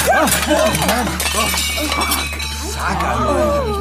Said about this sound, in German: Sag mal, Entschuldigung, ist diese Tussi da gerade ernsthaft weggerannt, nachdem sie ein Tablett mit 4 Tellern einfach hat fallen lassen?